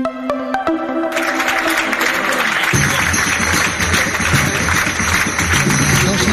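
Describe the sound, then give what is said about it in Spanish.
A crowd breaks into loud, sustained applause and cheering, a dense wash of clapping that builds after a couple of seconds of tonal music and carries steadily to the end, an ovation as Feijóo receives Alfonso Rueda at the entrance of the PP headquarters in Génova, Madrid. “De Santiago a Madrid, Feijóo recibe en Génova a Alfonso Rueda con esta ovación a la entrada de la sede del PP.”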